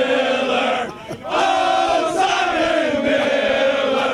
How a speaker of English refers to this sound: People tell me that I shouldn't let the cheering go on. I really enjoy it. So I'm just gonna let it happen.